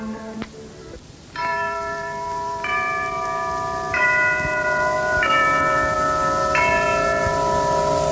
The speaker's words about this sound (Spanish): Ya doblan las campanas, se llevan a mi amor, y en mi pecho ha cenido la desesperación.